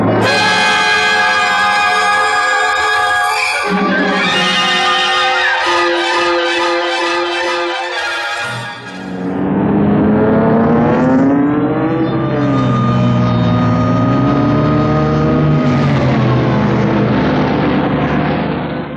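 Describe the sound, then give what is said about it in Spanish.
Three police patrol cars speed through the streets at night: a loud engine roar with sustained tones gives way to wailing sirens that rise and fall in pitch over steady rumbling traffic noise. “El ulular de las sirenas rompe el silencio de la noche. Tres veloces autopatrullas recorren las calles a velocidad vertiginosa.”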